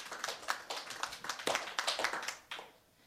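Steady audience applause, a dense patter of many hands clapping with sharp bright claps standing out, fading near the end. No voices are heard over it.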